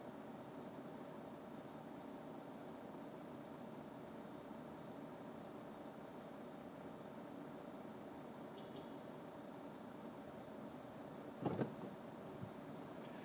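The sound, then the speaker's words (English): A bus rumbles past with a steady, low engine drone that fills the whole stretch. A brief sharp clatter breaks through near the end. No one speaks. “What is this bus doing?”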